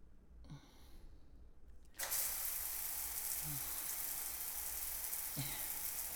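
A near-silent moment, then a bathroom shower in California is turned on at about two seconds, its water running as a steady, dense hiss to the end, with a couple of faint low vocal sounds underneath.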